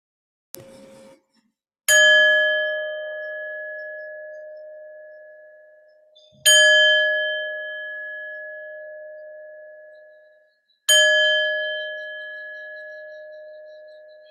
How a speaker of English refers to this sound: And if you have your eyes closed, you can begin to slowly open them as I move to ring the bells to come to a close in our practice.